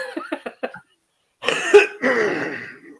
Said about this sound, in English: You got to lay off the cigarettes like Captain America. You're coughing over there.